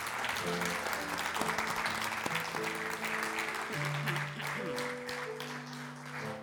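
A church audience applauds loudly and steadily for several seconds, giving a strong round of applause to the Lord, the dense clapping continuing while sustained keyboard chords play underneath.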